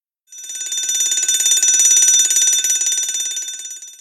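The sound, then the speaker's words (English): A loud electric fire alarm bell rings continuously with a rapid metallic clatter, starting abruptly, holding steady for several seconds, then easing slightly toward the end. No voices. “The fire alarm rings.”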